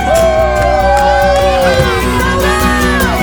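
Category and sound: crowd, crowd cheering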